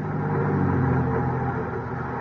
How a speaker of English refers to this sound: I switched on my ignition, started my car.